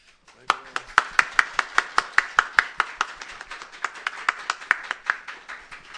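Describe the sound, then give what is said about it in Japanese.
A group claps hands in a brisk, steady rhythm for several seconds at a church baptism, welcoming a newly baptized member, the sharp claps fairly loud, gradually softening toward the end with no voices over them. “新しい神の家族ですね、もう一回拍手を。”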